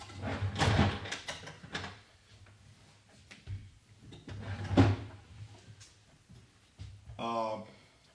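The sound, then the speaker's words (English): A drawer holding markers slides open with a rattle, followed a few seconds later by a second scraping thud as it is pushed shut, with brief murmured voices in between. “They're in the drawer.”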